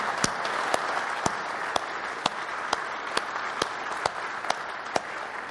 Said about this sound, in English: So would you join with me in giving all of our mothers, grandmothers a round of applause? Thank you so much.